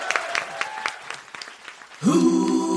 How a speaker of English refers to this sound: Please give a round of applause to my amazing guests